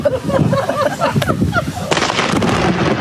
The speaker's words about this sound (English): I don't know what to make of lightning striking a quarter mile away during our wedding vows. I take it as a good sign that we didn't get electrocuted.